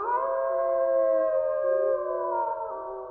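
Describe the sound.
Several people howl together like a wolf pack, their voices layered in long, sustained, wavering tones that hold steady and loud for about three seconds.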